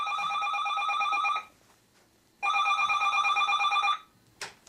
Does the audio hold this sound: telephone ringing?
yes